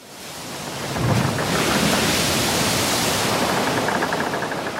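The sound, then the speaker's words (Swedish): A dense, roaring wash of water rises within the first second and holds steady, a loud continuous rushing surge of sea water pouring in over the low-lying Falsterbo peninsula in southwestern Sweden during the storm flood of 13 November 1872, with the sea level raised by over 2 meters, with no voices. “Havsnivån har höjts med över 2 meter och vattnet väller in över det låglänta Falsterbonäset längst ner i sydvästligaste Sverige.”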